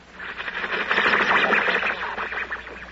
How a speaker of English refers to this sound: Well, I get that on my car radio. Static. Yes, but that's from the stars. Oh, you mean radio interference. That's right.